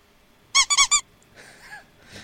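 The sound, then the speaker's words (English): A rubber toy duck squeaks four times in quick succession, each squeak loud, high and nasal, followed by a few faint, breathy rustles. “And then you find a toy duck.”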